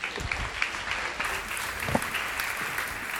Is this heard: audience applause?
yes